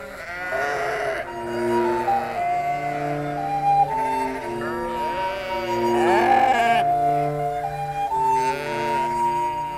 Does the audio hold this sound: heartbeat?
no